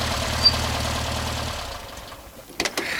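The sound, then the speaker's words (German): A yellow Volkswagen Beetle rocks heavily onto a beach, its engine idling with a low, steady, throbbing rumble for about a second and a half, then dies away, leaving near silence broken by a couple of short knocks. No one speaks. “Kurz darauf schaukelte der gelbe Käfer schwerfällig auf den Strand.”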